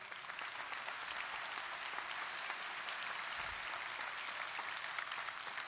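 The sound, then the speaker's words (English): An audience claps steadily for several seconds, a dense, even patter of many hands that holds at a constant level with no voices on top. “I think that deserves applause.”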